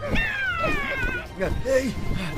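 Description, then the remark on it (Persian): A cat, called a demonic cat by people trying to catch it, lets out a long, high, wavering meow, followed by shorter yowling sounds mixed with excited voices and general commotion. “زود باشین این گربه اهریمنی رو بگیرید.”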